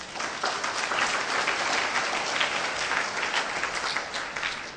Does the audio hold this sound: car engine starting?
no